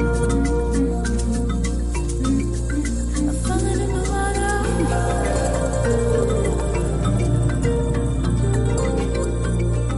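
Instrumental music plays steadily with a deep sustained drone beneath layered melodic tones and light plucked or struck notes, even in loudness throughout, with no voices.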